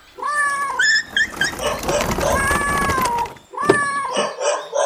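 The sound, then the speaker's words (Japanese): Several cats meow and wail in overlapping, drawn-out calls, fairly loud, with a brief lull before another burst of meowing, as many dogs and cats in small cages are brought out the back door of a public health center to an animal rescue group. “裏口からすごい数の犬猫が出てくるな。”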